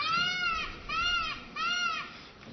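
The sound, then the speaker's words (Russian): A peacock's loud, wailing call repeats three times in a steady rhythm, each cry a high, nasal, arching note lasting under a second, played as a phone reminder alert with no talking. “Напоминалка у меня такая. Павлин кричит.”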